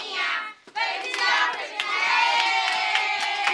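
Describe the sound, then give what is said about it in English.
A group of children shout and squeal together at a girl's 10th birthday party with balloons and a store-bought cake in Boca Camarioca, a small Cuban fishing village about 2 hours east of Havana. A loud, continuous burst of high-pitched voices, with a brief dip before the noisy chatter resumes and holds steady. “A few neighborhood kids are at her party.”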